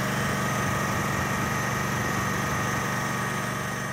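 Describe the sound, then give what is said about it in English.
A gas-powered machine at the Mokelumne River Fish Hatchery, about an hour northeast of Modesto, runs steadily. It gives a loud, constant droning hum and a buzzing high-pitched whine, with no pauses or changes in pace and no voices. “Late one Tuesday afternoon, I found myself at the Mokelumne River Fish Hatchery, standing in front of a gas-powered machine that looked like it would be more at home on a construction site.”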